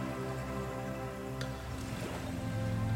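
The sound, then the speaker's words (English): Gentle sea waves roll and wash steadily, a soft continuous watery hiss with a slight swell toward the end, calm, with no voices. “You feel so comfortable and calm, and the waves of the sea continue to roll gently.”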